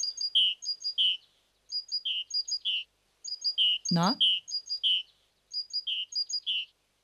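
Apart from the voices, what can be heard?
great tit song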